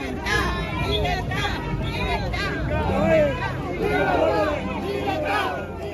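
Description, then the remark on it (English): A dense crowd of more than 100 protesters outdoors, many voices shouting and chanting "Libertad" and "Patria y Vida" together against the Cuban team and the government in Cuba, loud and sustained, with overlapping raised voices swelling and dipping throughout. “stepping outside and seeing more than 100 protesters outside chanting Libertad and Patria y Vida, and chants against the team, but more broadly chants against the government in Cuba.”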